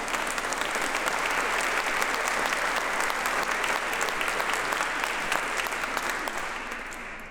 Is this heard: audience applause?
yes